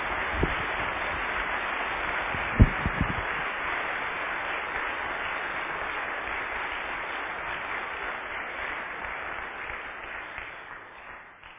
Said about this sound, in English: Well, why don't we give them a round of applause and thank them for it.